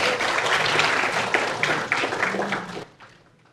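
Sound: audience applause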